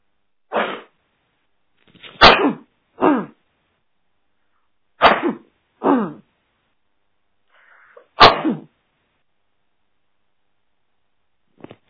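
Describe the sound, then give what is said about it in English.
A string of about six or seven sneezes from a person who has the flu, each a sharp, forceful burst, some with a sudden explosive onset, spaced irregularly over several seconds with quiet gaps between them and no talking. “I'm sorry, I caught the flu yesterday, so I'm sneezing.”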